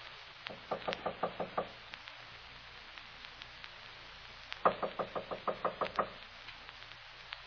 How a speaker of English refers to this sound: I'll knock.